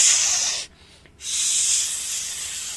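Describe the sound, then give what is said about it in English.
Fajitas sizzle on a hot plate in a loud, bright, steady hiss that cuts out for about half a second, then surges back and keeps crackling. No one speaks. “That's a fajita sizzling.”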